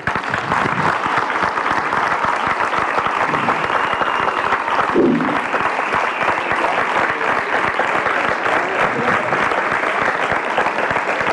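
Sustained, dense applause from a large crowd in the Plaça de Joan Abat in Ripollet during the town's festa major, after filmmaker Belén Funes read the festival proclamation; a steady wash of many hands clapping at even loudness for the whole stretch, with no voices standing out.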